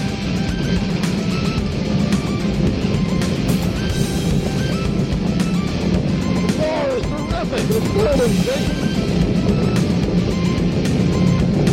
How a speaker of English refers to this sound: The big glass window is shaking. Now we're holding them with our hands. Look at the rocket go into the clouds at 3,000 feet. Roars, terrific. Look at it going.